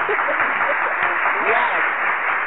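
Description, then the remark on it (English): A steady round of applause, dense and fairly loud, holds for the whole stretch, with voices cheering and calling out over the clapping. “Round of applause for the Queen, man.”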